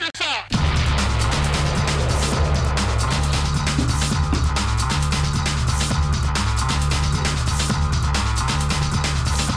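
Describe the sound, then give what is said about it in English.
A short radio sting for the Madman DVD review segment bursts in after a brief lead-in, then a loud, dense music bed with heavy bass and a steady driving beat plays continuously, with no one talking. “Great sting.”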